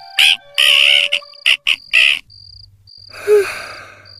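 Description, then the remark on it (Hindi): Mitthu, a pet parrot, lets out a run of loud, harsh screeches at night in quick bursts, then one longer raspy squawk, while crickets chirp steadily underneath and a low hum runs through. “क्या हो गया मिट्ठू, रात के समय क्यों चिल्ला रहा है?”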